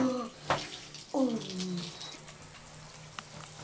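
shower water running

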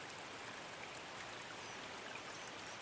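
babbling

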